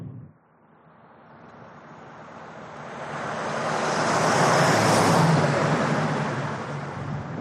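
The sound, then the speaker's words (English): Steady road noise and rumbling hum from inside a moving driverless Waymo robotaxi booked through Uber, heard from the back seat with nobody up front, gradually swelling louder midway before easing slightly, with no voices. “Once I'm in the car, it's exactly the same. I'm in the back seat with my guide dog. There's nobody up front. and things are driving along.”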